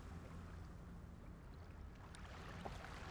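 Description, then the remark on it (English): Soft ocean waves roll onto the shore and lap continuously, a steady low wash of water with gentle splashes, quiet, with no voices. “begin to welcome the image of gentle waves rolling onto the shore, the soft lapping of ocean waves.”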